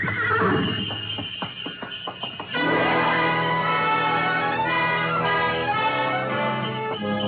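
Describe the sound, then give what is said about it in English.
A horse-drawn sleigh glides out of a station over snow: a quick, uneven patter of hooves for a couple of seconds, then a loud, steady jangle of bells rings on without pause. No one speaks. “We glided out of the station, runners squeaking on snow, the soft pad of hooves, and the jangle of Mary Bell.”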